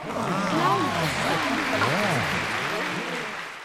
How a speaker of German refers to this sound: Das Publikum applaudierte.